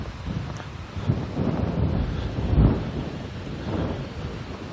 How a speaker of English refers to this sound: My irrigation system is running, that's a good thing.